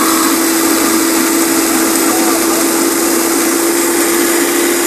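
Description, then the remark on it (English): A blender runs at a steady high speed, a loud continuous motor whine with a strong hum and dense whooshing churn of liquid swirling throughout, unbroken from start to finish. “So it's vortexing.”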